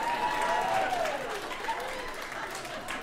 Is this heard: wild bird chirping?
no